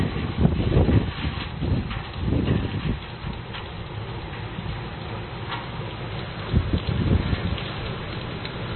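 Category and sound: nature, rain falling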